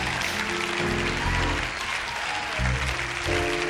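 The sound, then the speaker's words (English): A church audience claps their hands during a sermon in a dense, sustained burst of applause, steady and fairly loud throughout, with low tonal swells and muffled voices mixed underneath. “Come on, somebody in here, shout. Clap your hands.”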